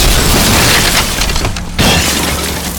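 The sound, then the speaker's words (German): A loud cannon blast, fired by pulling a lever with the barrel turned straight upward, fills the air with dense, rumbling noise. After a brief lull, a heavy box shot from the cannon crashes through the wooden roof of a wagon and splinters the wood forcefully. “Mit Schwung drückte er den Hebel nach unten und ein lauter Knall ließ die Luft erzittern.”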